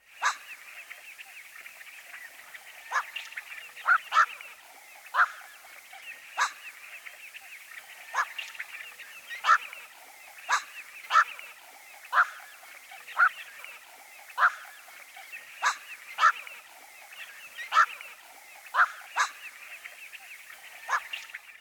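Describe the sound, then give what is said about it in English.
A black-crowned night heron gives harsh, guttural quawk calls again and again at irregular intervals, each one short and barking, standing out over a steady background hum of insects. “Now here's the guttural call of the black-crowned night heron.”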